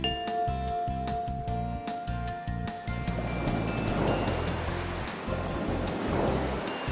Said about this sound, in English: I've heard it before. It's the ocean's waves.